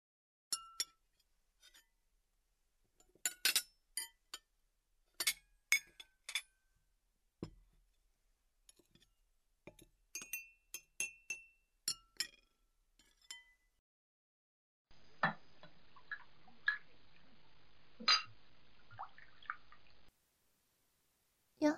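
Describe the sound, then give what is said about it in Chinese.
Dishes being washed: bright, irregular clinks and taps of glass and crockery, with dripping, followed by a steady few seconds of running tap water that stops abruptly. No voices. “这是你第一次洗碗吧？”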